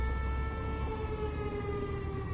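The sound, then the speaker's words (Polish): A rail vehicle factory's siren wails in one long, steady tone that sags slightly in pitch over a low background rumble, sounding without a break. It sounds, as every year, at 6 o'clock at a commemoration ceremony at the factory gate. “Jak co roku odezwała się zakładowa syrena.”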